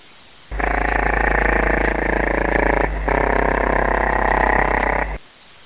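A loud, buzzy radio signal tone recorded on the Tiger 1 wavelength pulses rapidly like a woodpecker's tapping, running steadily for several seconds with one brief dip midway before cutting off. No one speaks.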